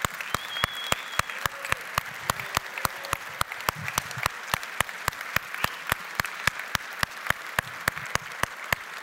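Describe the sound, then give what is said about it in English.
An audience at a morning service applauds the women who stand up to be thanked and honored, many hands clapping in a dense, continuous patter at moderate volume without any talking over it. “So if you are a woman here this morning, would you just stand up and allow us to give you an applause saying thank you so much.”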